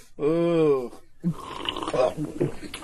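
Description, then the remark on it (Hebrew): A single drawn-out, voiced snore imitated by a person, loud, sliding slightly in pitch for under a second, followed by a man talking. “מה אתה עכשיו נוחר לי פה?”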